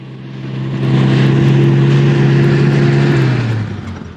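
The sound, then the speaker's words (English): A garbage truck rumbles past houses on a suburban residential street with two men in overalls hanging on the back, then comes round a bend; a steady low engine drone swells, holds loud, then drops in pitch and fades as it moves on. No one speaks. “Two men in overalls are hanging on the back of the truck as it continues onwards past houses and comes round a bend.”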